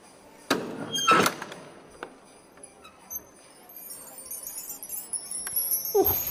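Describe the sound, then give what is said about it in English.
A door is unlatched and opened: a sharp clunk, then a louder rattling knock and small metallic clinks, followed by a quieter stretch and a brief creaking squeal near the end. “But I better go and answer the door.”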